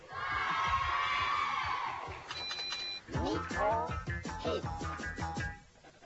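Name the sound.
audience applauding and cheering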